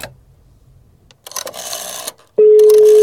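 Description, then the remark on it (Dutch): A telephone being dialed to call Dutch celebrity Marcel Levy, with a short burst of clicking and rattling, followed by a loud, steady phone tone that holds to the end. No one speaks. “Dat is natuurlijk een bekende Nederlander die we gaan bellen.”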